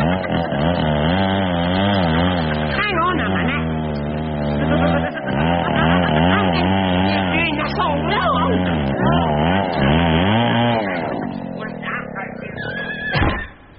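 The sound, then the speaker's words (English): A loud, continuous power saw whines and snarls as it cuts in a 'sawing in half' speciality act, its pitch wavering up and down for about eleven seconds before winding down and cutting off. “Ladies and gentlemen, we proudly present Sawing Snuff in Half.”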